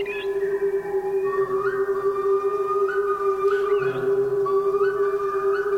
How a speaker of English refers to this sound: Couldn't believe it. I was hypnotised on the spot, and then I said to myself, hey, wait a minute, mate, I've got to find this bird. So I raced towards where this incredible call was coming from, and across a river